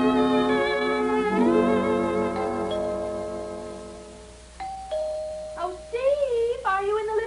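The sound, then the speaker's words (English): A doorbell chime rings out with rich, ringing tones that slowly fade over a few seconds, followed by a steady high tone and wavering, moan-like vocal sounds. “Yeah, honey, I'll answer the door.”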